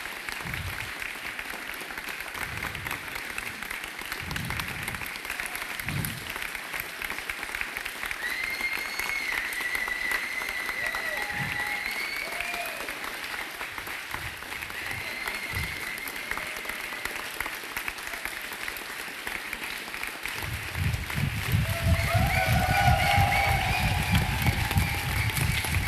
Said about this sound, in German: Das ist euer Applaus.